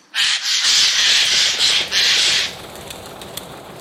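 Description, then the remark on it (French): A Eurasian jay gives loud, harsh rasping alarm screeches, three or four close together in a near-continuous burst, then stops, leaving a quiet outdoor background. “Il a été démontré que l'écureuil roux, les renards et bien d'autres animaux dressent toujours l'oreille quand le geai lance une alerte.”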